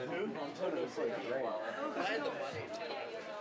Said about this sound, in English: So the stage is set. The opening band has been on stage setting up for about 15 minutes now. As you can hear, there are people talking. The crowd is anxiously awaiting for the opening act to start. We are 15 minutes into setup.